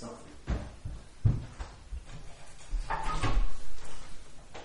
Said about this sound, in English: I'm just going to open the doors.